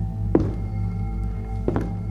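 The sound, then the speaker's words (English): Two dull, heavy footfalls land on a floor in a kitchen about a second and a half apart, slow and deliberate, over a steady low background hum with no voices. “We started across the living room towards the door when footsteps came from the kitchen.”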